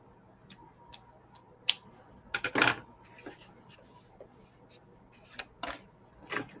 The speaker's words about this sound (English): With the older scissors, snip. This is our morning routine.